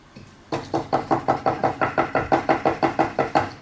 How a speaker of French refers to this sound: Mais qui c'est qui frappe en plein milieu de la nuit comme ça?